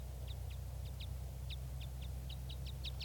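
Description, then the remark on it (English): Red crossbill type 5 calls from a red male perched at the top of a tree by bird-banding nets: a rapid series of about a dozen short, sharp, high chip notes, fairly steady in rhythm, over a constant low rumbling hum. “I'm at the net right now and I can see a red crossbill, red male, up in the top of a tree, and it sounds like a type 5.”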